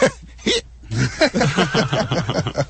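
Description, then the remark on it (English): Hiccups: a couple of isolated gulps, then a rapid, rhythmic run of hiccup-like vocal bursts that continues to the end, with no talking. “We're gonna be presenting Dwight with all hiccups to protest SOPA.”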